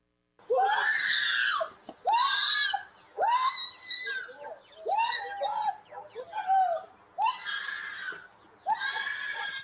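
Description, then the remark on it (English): A woman screams repeatedly in long, piercing, anguished bursts, about seven in a row with brief gaps, loud, with no other voices or sounds around her, recorded by a doorbell camera as she is attacked by three men on a street in Chicago. “It's a doorbell video of a woman being attacked by three men on a Chicago street.”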